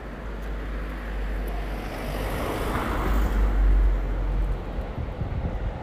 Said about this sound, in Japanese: めっちゃ電車通る相変わらず。